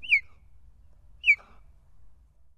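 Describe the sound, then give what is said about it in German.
Two short, sharp human-whistled notes about a second apart, each swooping quickly down in pitch like a bird call, clear over a faint low background hum. “Und wenn man sich die Struktur anschaut, es ist wirklich nicht kaum zu unterscheiden von einem Vogelrufen.”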